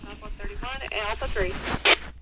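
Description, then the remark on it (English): Voices of a fire call chatter through the speaker of a 2050 CB radio with its squelch adjusted, thin and slightly crackly, with a short burst of static near the end before the transmission cuts off. “But you can hear the radio, you can hear them talking on the radio.”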